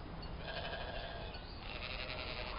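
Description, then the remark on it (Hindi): A flock of sheep grazing in people's farm fields in Canaan bleats continuously, several overlapping wavering cries filling the scene at steady loudness with no one talking. “ये बताओ कि तुम्हें किसने हक दिया है कि लोगों के खेतों में अपनी भेड़ें चराओ?”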